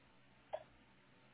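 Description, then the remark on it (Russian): A single short, muffled click as a cable plug is pushed back into its socket on internet equipment, heard once against quiet with no one talking. “Вот, ну, щелчок.”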